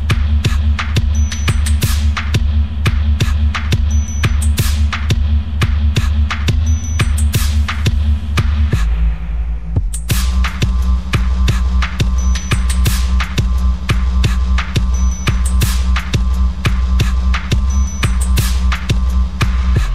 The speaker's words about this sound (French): Il y a de la réverb là. Hein. Là, il y a de la réverb.